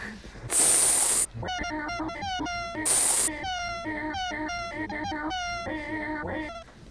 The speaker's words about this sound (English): Do you think the cat is a cat?